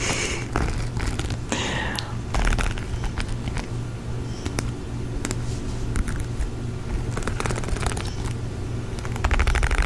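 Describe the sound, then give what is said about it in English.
A lawn mower mowing grass outside as a storm approaches, its engine droning steadily throughout, a low continuous hum with a rough edge, broken by scattered sharp clicks and crackles. No one speaks. “Also, I can't believe that someone is genuinely mowing their grass right now.”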